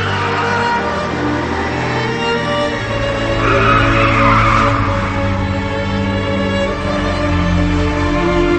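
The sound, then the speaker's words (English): A car engine roars steadily while tires squeal and skid in a long, loud screech that swells in the middle, sustained for several seconds with no voices, as the driver swerves to avoid a jackknifing semi-truck coming straight at the car. “He struggles to swerve out of the truck's way.”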